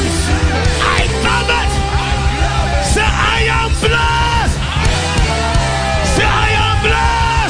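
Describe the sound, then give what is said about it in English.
At a religious meeting, an audience screams and yells together, answering a call to scream "I take it, I receive it," in a loud, sustained roar of overlapping voices, with no pauses, lasting the whole stretch. “Scream and say, I take it. I take it. I receive it.”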